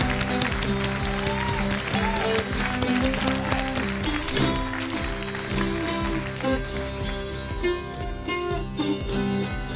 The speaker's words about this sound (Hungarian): Nézd meg, mindenki tapsol.